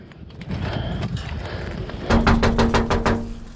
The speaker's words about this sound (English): After repeated bangs, an elderly woman comes to the door and he says, good afternoon.